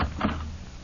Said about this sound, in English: be careful opening the door. Maybe it's the cat burglar.